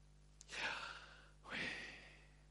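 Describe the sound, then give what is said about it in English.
A person breathes audibly in and then out, two slow airy breaths separated by a brief pause, shaped almost like the whispered two-syllable word Yahweh. “they were joined by a rabbi who emphasized that they had not grasped the point at all, because the word Yahweh when you say it, sounds for all the world like breathing.”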